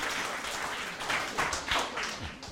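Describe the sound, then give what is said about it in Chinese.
An audience applauds steadily at the end of a talk, a dense wash of many hands clapping at once that holds at an even level for the whole stretch, with a few faint voices underneath near the end. “那其实照理讲你们不应该只有拍手，你知道吗？”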